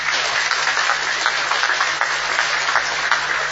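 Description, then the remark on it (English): Sustained applause from a crowd at a Commission meeting, congratulating the countries appointed as coordinators and regional representatives, a dense steady wash of many hands clapping at once, moderately loud and continuous with no voices rising above it. “Can also clap for them, please.”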